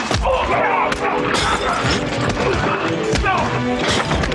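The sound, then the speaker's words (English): Loud punches land in rapid succession during a fight, heavy thuds and sharp whacks cracking out over a dense, busy background with voices mixed underneath. “This is a good is a good example of you hear the punches. They're really loud.”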